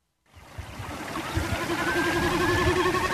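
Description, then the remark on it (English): A babbling brook fades in and settles into a steady, full rush of gurgling water, with faint warbling birdsong threaded through it. No one speaks. “This landscape with its babbling brook and warbling birdsong might be described as priceless”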